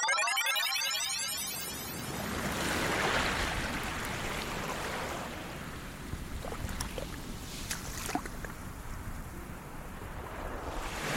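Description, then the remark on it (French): Waves of the Irish Sea wash in and break steadily around the tiny English island of Peel with a broad, rushing roar, fairly loud, with scattered splashes and water sloshing; no voices are heard. “Ça fait du bien d'entendre le bruit des vagues.”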